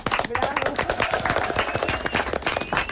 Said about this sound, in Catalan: Molt bé, aplaudiment.